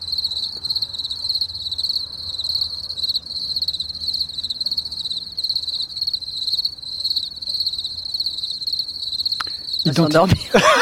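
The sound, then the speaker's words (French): A dense, unbroken chorus of cicadas and crickets buzzing and chirping at a steady high pitch throughout, loud, with a brief louder rustling disturbance near the end. “C'est cigales, les grillons.”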